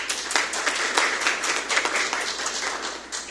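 An audience applauds a woman asked to stand, many hands clapping at once in a dense, continuous wash of sound that stays fairly loud throughout the few seconds.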